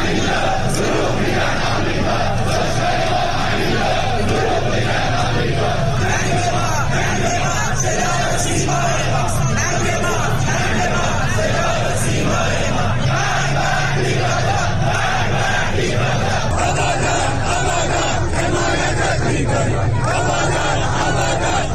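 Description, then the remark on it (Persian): A large crowd of protesters chants and shouts slogans in the street on a Friday night in Iran, in protests after the deadly collapse of the Metropol building in Abadan: rhythmic, loud waves of voices, a dense roar of many people calling out slogans continuously throughout. “ویدیوهای به اشتراک گذاشته شده در اینترنت اجتماعات انبوهی از تظاهرکنندگان را جمعه شب در شماری از شهرهای ایران از جمله در آبادان در نزدیکی ویرانی ساختمان متروپول و در سطح خیابان در حال شعار دادن نشان می‌دهند.”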